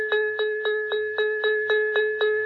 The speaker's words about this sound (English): Just at that moment, quite close at hand, the dinner gong rang out.